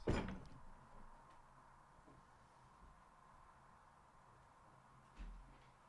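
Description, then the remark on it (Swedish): A door closes with a sharp knock at the start, followed by quiet room hiss and a second soft, low thud a few seconds later. No one speaks. “Jag ska bara stänga en dörr.”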